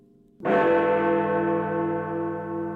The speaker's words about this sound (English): I live in London. My apartment is close to the Houses of Parliament, and I can hear the bells of Big Ben chiming every hour.